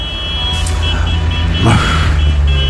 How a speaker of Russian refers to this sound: Запах навоза и звук вот этого вот клаксонов тракторных и грузовых. Германия вся стоит.